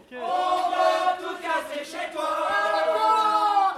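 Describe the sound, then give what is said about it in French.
A large crowd of citizens in Paris shouts and cheers together, gathered to bring down a column: a loud, dense, sustained roar of overlapping cries that swells and dips without pause. “La garde internationale est là, les Versaillais sont aux portes, mais malgré tout, la foule est présente et elle est passionnée, elle va faire tomber cette colonne.”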